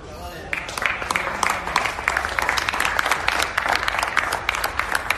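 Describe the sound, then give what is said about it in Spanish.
A sustained round of applause from a group at a football training session: dense overlapping claps at a steady, lively rhythm, starting abruptly and continuing at even loudness. The players give the ovation at Xavi's request for Ansu Fati on his return to training. “Bueno, escuchen esta ovación.”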